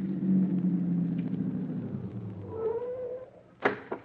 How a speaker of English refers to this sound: stop the car.